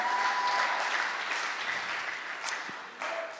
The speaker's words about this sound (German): Gebt nochmal einen richtig fetten Applaus an Dominik von letzter Woche.